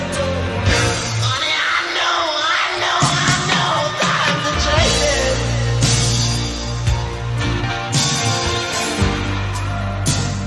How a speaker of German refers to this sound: jetzt lass man mal schreien, oder? Muss sein.